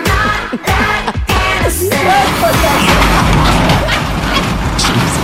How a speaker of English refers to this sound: that is the sound of the rider truck missing the memo that is not going to make it under the 3rd Street Bridge.